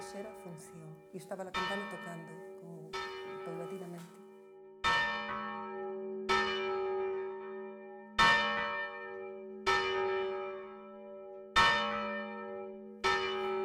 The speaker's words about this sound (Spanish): Aún tenemos un toque con nombre propio, el esquilón. Tocaban antes de la misa de ocho para llamar a los canónigos y la campana tocaba paulatinamente.